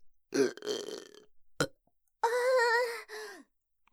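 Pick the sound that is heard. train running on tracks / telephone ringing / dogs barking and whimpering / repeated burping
repeated burping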